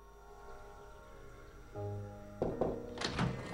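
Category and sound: household object, door closing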